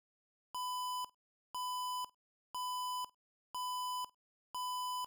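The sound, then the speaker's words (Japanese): A loud electronic security alarm, triggered by a surveillance sensor, beeps steadily through a corridor, five sustained harsh tones about half a second each, repeating once per second with short gaps between them. “けたたましい警報音が廊下に響き渡った。”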